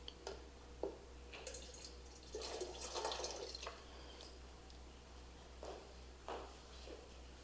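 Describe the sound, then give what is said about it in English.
Water splashes from a bottle in a short, quiet pour lasting about a second, with a few scattered drips before and after. No one speaks. “I went, oh, here's my water bottle. I'll just share a little bit of my water bottle.”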